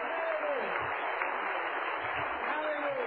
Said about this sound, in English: Clap your hands to the Lord now.